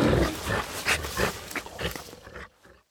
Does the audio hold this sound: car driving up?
no